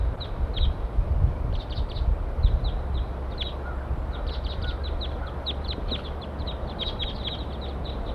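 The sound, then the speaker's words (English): A flock of eight wild birds in a pine tree calls over and over, short high chirps overlapping in quick bursts across the whole stretch, above a steady low rumble of background noise. “Eight birds all together now.”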